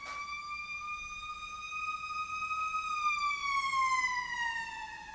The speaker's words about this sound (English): Shit, you know when that fire truck goes by, it sounds like your walls are made out of paper.